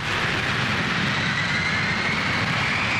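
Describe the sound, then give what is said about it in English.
A Learjet jet aircraft roars steadily, a dense wash of engine noise with a thin high whine that slowly climbs in pitch, loud and unbroken for the whole stretch, with no voices. “Was it the time when the Learjet Flaming Arrow set its course for the Parliament buildings in Ottawa?”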